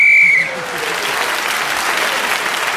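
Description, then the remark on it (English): A single short, shrill whistle blast rings out, blown to end a round as Clement Freud is speaking, then gives way to steady applause from an audience that continues to the end. “So Clement Freud spoke as a whistle and gained that extra point.”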